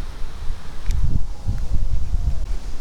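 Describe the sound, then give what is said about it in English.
A gust of wind blows through along a small creek in the dark, with a low rumbling buffet and a soft rustle of leaves that swells and eases in waves for a few seconds, with no one speaking. “Here comes more wind, and I'm still looking for those turkeys.”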